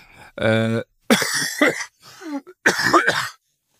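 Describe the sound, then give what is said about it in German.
A loud throat clearing followed by a couple of harsh, raspy coughs in quick bursts, with short pauses between them and no talking, from a person still ill with a persistent cough. “Ja, wie ihr hört, ich bin auch noch angeschlagen, der Husten bleibt hartnäckig, aber die Stimme kommt langsam wieder, ich bin noch so ein bisschen nasal”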